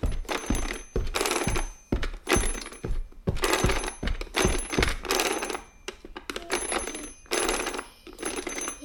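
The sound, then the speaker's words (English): A telephone bell rings loudly in rapid, repeated bursts with short gaps, its jangling metallic ring continuing throughout with no voices. “Like a phone, like mummy's phone.”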